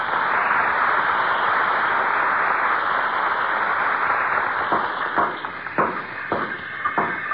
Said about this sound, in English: that's what the sound of carpenters at work is to a guy who loves to tinker and putter